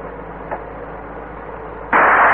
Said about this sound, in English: Oh, that was some shot. Well, a tire doesn't stand much chance against a bullet made to stop an elephant.